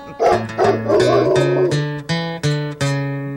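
A dog barks and whimpers in a series of close, loud, tonal yelps, mixed with a run of steady musical notes that strike one after another at an even pace.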